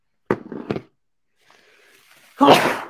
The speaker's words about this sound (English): Gesundheit. Gesundheit.